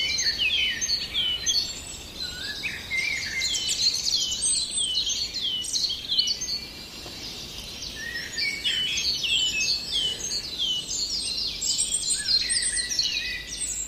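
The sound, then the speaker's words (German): A Eurasian blackbird's fluting song rises within a busy dawn-style bird chorus, steady and continuous for the whole stretch, with many overlapping chirps and whistles and no voices. “hören jetzt vor allem das wunderbare Flöten der Amsel”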